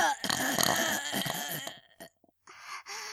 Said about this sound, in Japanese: 旦那様のおちんかす、ごちそうさまの感謝のゲップ、いきますわ。